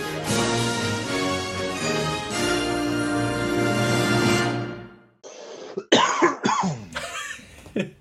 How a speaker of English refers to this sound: A little bit of cough.